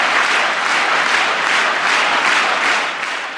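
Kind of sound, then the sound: crowd, crowd cheering and applauding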